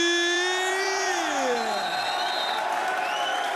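A crowd applauds and cheers loudly, with steady clapping and high whoops and shouts rising above it, one voice sliding downward in pitch early on.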